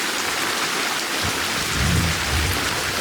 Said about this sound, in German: Boah, das ist das Donnergrollen, das diesen Sturzregen angekündigt hat.